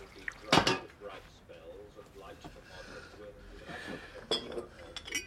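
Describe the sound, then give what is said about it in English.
At night in a cottage kitchen, an old man lights the gas and sets a kettle down on the gas stove with a sharp metallic clank, followed by quieter kitchen clatter and a faint slosh of water, then a second clink near the end. “A disheveled old man lights the gas and puts on a kettle.”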